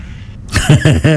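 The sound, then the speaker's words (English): A sheep bleats while being herded on a farm in Barnsley, a loud, quavering call that pulses in three or four quick wobbles after a brief quiet start, with no one talking. “I'm just going to ask the sheep how we're doing. Are we doing a decent job?”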